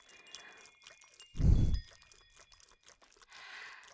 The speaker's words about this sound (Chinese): 听到了吗？第八声风铃，这不就响了吗？不过这只是第八声而已哦